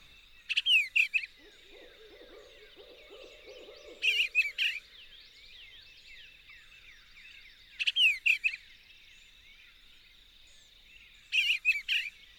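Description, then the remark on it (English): A barred owl hoots faintly in the distance while an eastern bluebird repeats short, bright chirping bursts about every three to four seconds in an otherwise quiet campground among the pines near Sopchoppy. “The bluebird warbles and distant barred owls lifting our spirits and relaxing our minds.”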